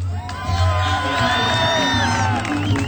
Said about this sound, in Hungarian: És kedves hallgatóink, tényleg itt vagyunk Békés Csabán és a színpad előtt, ami egy trónterem. Tombol a tömeg, tomb!